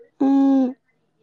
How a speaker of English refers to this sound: Yeah, it's just my TV.